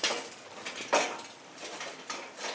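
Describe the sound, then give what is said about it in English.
A broken gate latch being shut on a countryside walk by a riverside: a few sharp metallic clacks and rattles, spaced irregularly with quiet gaps between them, fairly soft overall and with no voices. “There's another snake lift. This one's a bit even more broken, I think.”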